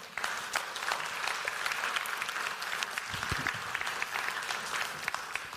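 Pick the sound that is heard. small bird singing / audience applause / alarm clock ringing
audience applause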